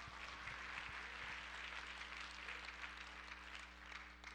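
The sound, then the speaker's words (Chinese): An audience claps together to give glory to God in a steady, dense wash of applause that holds its level for several seconds, with a low electrical hum underneath and no one speaking. “拍手将荣耀归给神， Amen。”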